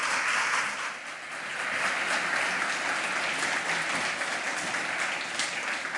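Steady audience applause fills the whole stretch, a dense crackle of many hands clapping at once, loud and sustained with a slight dip before swelling again.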